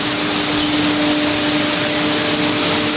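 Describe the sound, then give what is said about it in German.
Glass bottle blowing machines on four lines at the Sempre glassworks, making bottles of many shapes and sizes, about one million a day, produce a loud, unbroken roar of hissing noise, with a steady low mechanical hum running underneath. No one speaks. “In der Glashütte Sempre stehen 4 Bahnen mit Glasblasmaschinen.”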